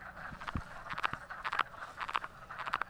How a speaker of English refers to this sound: It doesn't take long for the frogs to overcome their shyness and start calling again. I got one. I think I got a frog. Here's the little guy that's making all that noise.